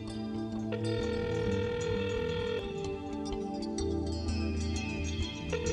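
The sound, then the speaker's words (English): A telephone rings with a steady electronic tone, sustained pitches holding continuously for several seconds at a constant loud level, with no voices. “What is that sound? The phone. Someone is trying to call him.”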